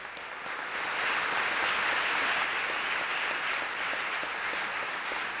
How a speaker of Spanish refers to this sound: A las mujeres de mi patria, un saludo con afecto ilimitado, con respeto superior. Un aplauso a todas ellas.